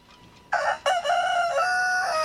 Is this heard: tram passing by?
no